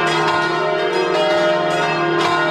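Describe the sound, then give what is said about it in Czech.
Church bells of a church ringing continuously in the evening, their overlapping tones sustained and resonant, with fresh strikes every second or so blending into a dense, loud wash of metallic chiming. No voices are heard. “Ja sam zvona to veče zapravo čuo po prvi put.”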